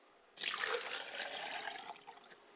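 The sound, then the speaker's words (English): Water is poured out as a libation to the east in a ritual, in a steady, splashing stream that starts abruptly after a short quiet moment and fades slightly toward the end, with no voices. “I pour libations to the east, and I say Ashe.”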